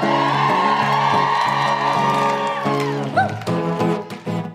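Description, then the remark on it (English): A crowd cheers and whoops loudly for several seconds, with clapping mixed into the steady roar and sustained musical tones underneath. “Thank you for the claps.”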